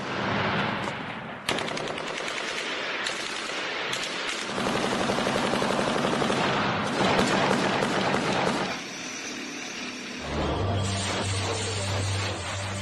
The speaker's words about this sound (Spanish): Este es el último sonido que ha salido hoy a la luz pública, ametralladora y artillería con explosión final. Esto fue en Bucha.